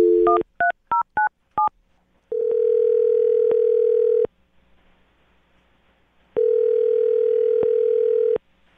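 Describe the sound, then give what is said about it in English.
A quick series of keypad dialing beeps, then two long, steady phone ringing tones separated by a few seconds of silence, loud with no voices, as the radio show Brooke and Jubal in the Morning calls a woman. “I'm about to get her on the phone and find out if the cat allergy is real, okay?”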